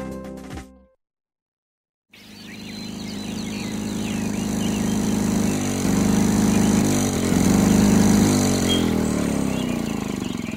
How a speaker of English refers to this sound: Everyone, pardon my noisy lawnmower.